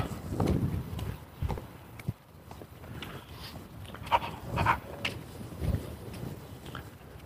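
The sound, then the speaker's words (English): A small dog passes by with a woman, its quick pattering steps mixing with scattered footfalls and light outdoor noise, fairly soft overall with a few sharper knocks. “Lady and a cute little dog.”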